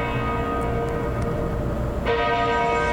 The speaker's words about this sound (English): When I heard the bells, I was looking for hope. I was looking for help. So I dragged my way towards the sound of the bells.